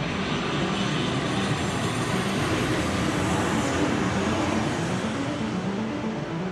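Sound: airplane engine in flight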